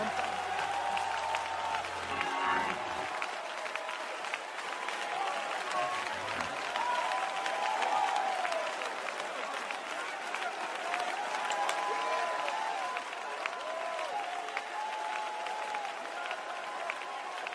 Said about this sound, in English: I wish everyone in this building would clap their hands with all their heart and lift up their voice for a moment.